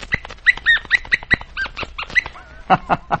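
A small puppy named Popcorn yaps in a quick, uneven burst of high, sharp yips, then lets out a thin wavering whimper before a few final yelps.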